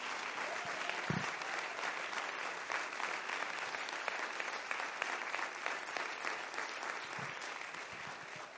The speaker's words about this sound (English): If you believe that, you ought to clap your hands and give him praise for it.